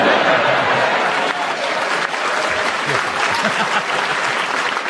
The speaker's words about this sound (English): I will give you a bonus point for cheek and for the fact the audience applauded you, but it was utterly incorrect.